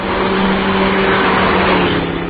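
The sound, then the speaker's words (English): A car engine roars loudly and steadily, a sustained rush of road and motor noise as a vehicle coming along from behind speeds along at 80 or more, with no voices over it. “Somebody's coming along behind us at a real good clip.”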